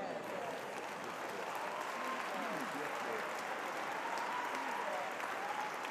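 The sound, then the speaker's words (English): A large audience claps steadily for the full six seconds, a dense, even wash of applause with faint voices and scattered cheers rising through it. “Hold your clapping for a minute.”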